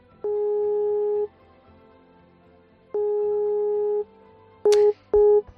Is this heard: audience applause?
no